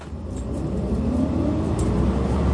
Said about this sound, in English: I make my getaway, fling myself upon a number 37 bus, which promptly sits in a traffic jam for 10 minutes.